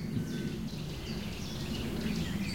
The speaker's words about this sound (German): Jetzt hören wir gerade den Kleiber sehr laut mit seinem Chip, Chip, Chip